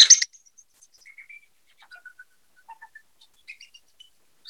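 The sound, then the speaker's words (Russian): A shvi flute imitates birdsong: short, high, pure whistled chirps and trills scattered across a few seconds, with bursts of breathy noise at the start and end, played alone without talk. “Они изображают пение птиц.”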